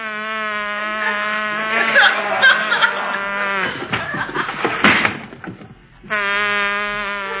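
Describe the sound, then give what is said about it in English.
A California bee buzzes loudly in a steady, droning hum on an English muffin covered with honey, broken midway by a burst of rustling and clatter, then fades briefly before the buzz returns at full strength. “That's a bee. He's still working on it.”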